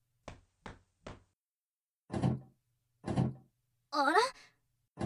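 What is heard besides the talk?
door rattling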